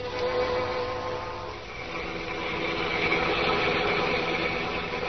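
A steady, loud car engine drone rumbles on throughout as the car drives home from a late party, with layered humming tones and a broad wash of road-like noise, swelling slightly midway. No one speaks.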